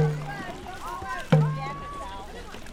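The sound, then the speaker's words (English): Twenty dragon boat paddlers sitting in rows of two in a 47-foot boat row outdoors at an event in Cleveland, with one person steering and another striking a deep drum a few times to set the pace, while several voices call out in the background. “At a recent event in Cleveland, 20 paddlers sat in rows of two lining the boat, while one person steered and another set the pace on a drum.”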